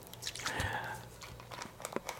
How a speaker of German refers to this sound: dann noch ein Schluck aus der Flasche, wie wir eben gehört haben.